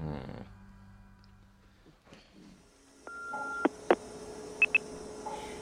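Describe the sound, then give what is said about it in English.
A handful of short electronic keypad tones sound over a steady tone, like a phone number being dialed, after a quiet low hum at the start. No one speaks. “Just to be clear, I'm not ringing to speak to you. I know your phone will be switched off just now.”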